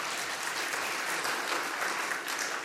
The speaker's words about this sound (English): So, take the applause now, because after might be a different story.